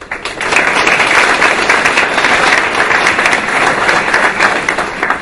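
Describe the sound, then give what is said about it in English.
A crowd at a tech talk in Copenhagen bursts into steady applause welcoming the speaker, many hands clapping at once in a dense, loud wash that holds evenly for several seconds without any voices. “So please give applause to Simon and welcome to Copenhagen.”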